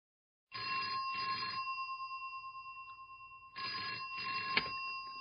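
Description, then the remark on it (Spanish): A telephone rings with a classic double-burst bell, two rapid trills, a pause, then two more, loud with no voices; the incoming call is an enquiry about a room for rent. “llamo por la habitación que alquilan.”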